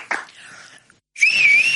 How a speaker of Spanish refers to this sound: Yo en la vida he sabido soplar con... silbar con dos dedos, macho.